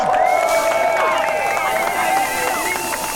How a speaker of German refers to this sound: Kommt bitte alle hierher, hört dem ehrenwerten Herrn Richter und Rapper Andreas Müller jetzt zu und lasst uns dann gemeinsam eine richtig fette Party starten. Applaus für Richter Müller!